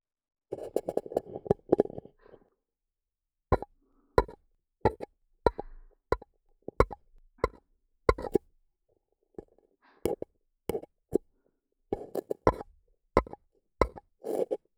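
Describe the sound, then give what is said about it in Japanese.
Hollow, muffled taps on paper cups covering both ears of the microphone, arriving in uneven bursts and single knocks, fairly loud, with no talking. “はい、両耳を紙コップで覆いました。さて、紙コップの上から叩く音に溺れていこう。”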